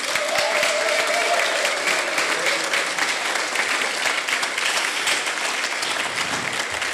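An audience applauds to thank the maker of the show's intros and jingles, a dense steady patter of many hands clapping at an even loudness for several seconds, with a faint murmur of voices mixed in.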